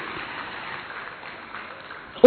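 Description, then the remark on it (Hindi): A crowd claps steadily to welcome Rajyogi Brahma Kumar Brij Mohan Bhai ji of the Brahma Kumaris organization, a dense wash of many hands that holds an even level for a couple of seconds before a sudden loud burst cuts in at the very end. “ब्रह्मा कुमारी संस्था की एक वैश्विक प्रतिभा आदरणीय राजयोगी ब्रह्मा कुमार ब्रिज मोहन भाई जी, हम सब भाई जी का एक बार जोरदार तालियों से अभिनंदन अभिवादन करते हैं।”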